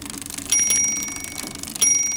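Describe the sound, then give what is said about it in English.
Two bright bicycle bell rings, about a second apart, each a sharp metallic ding that lingers and fades. Clear, with no voices. “Do you go by bicycle?”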